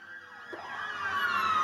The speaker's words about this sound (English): She said she could hear the sirens and emergency vehicles speeding past her house.